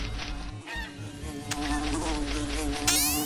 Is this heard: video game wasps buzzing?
yes